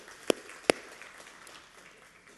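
Two sharp, isolated hand claps about half a second apart, followed by a faint low hiss and scattered soft rustles. The clapping is sparse rather than full applause, and no one speaks.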